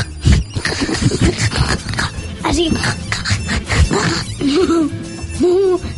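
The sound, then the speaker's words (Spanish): A person imitates a pig, letting out a series of snorty, grunting oinks with wavering, rising pitch, mixed with other voices talking and laughing. “No, bueno, yo cuando estoy ronco hago un poco el cerdo.”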